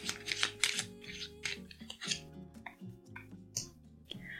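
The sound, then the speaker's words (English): A deck of cards being shuffled, with quick papery flutters and soft clicking bursts repeating every second or so over a quiet, steady musical background. “Okay, so let's shuffle these cards.”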